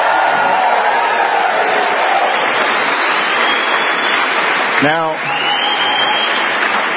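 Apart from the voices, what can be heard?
audience applause and cheering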